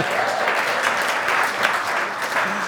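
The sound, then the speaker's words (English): A crowd applauds steadily, a dense, even wash of many hands clapping at a fairly loud level throughout, with no single claps standing out. “I don't know what the applause is for, but if you don't drink and you don't die, this is where you get to be one day, you know.”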